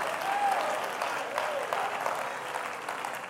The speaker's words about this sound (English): I clap my hands because I've been washed.